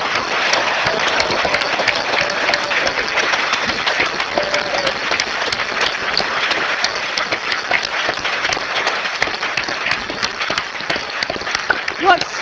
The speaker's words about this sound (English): It is a fantastic gift, so please give a large round of applause.